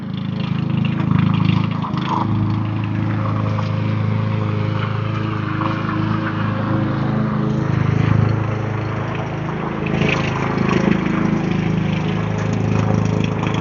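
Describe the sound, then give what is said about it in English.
A lawn mower's small gasoline engine drones steadily outdoors, its low hum rising and falling slightly in pitch over the whole stretch with no voices present. “Yes, it's lawnmower season.”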